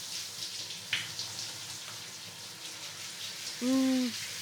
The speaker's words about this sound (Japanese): ちょっと待ってね。熱くないようにシャワーの調整してるから。